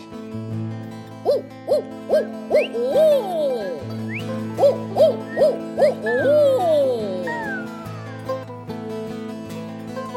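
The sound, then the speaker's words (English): A crowd of audience members at a live song performance, pointed at by the performer, imitates bird calls, mostly owl-like hoots and rising whoops in quick repeated bursts, over a steady sustained musical tone. “When I point at you, I need bird calls.”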